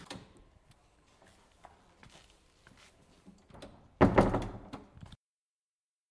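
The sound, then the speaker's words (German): A half-creepy giant criminal knocks on an eerie door: soft, scattered taps and rattles, then a loud, heavy burst of banging near the end that stops abruptly into silence. No voices. “Es klopft an der Tür ein halbgruseliger Riesenverbrecher.”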